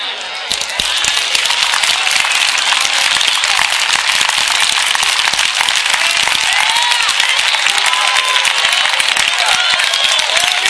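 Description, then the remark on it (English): A large group claps steadily and loudly, a dense, continuous wash of applause lasting the whole stretch, with scattered cheers and voices mixed in; an audience applauding Jesus during a morning church service. “Applaud Jesus.”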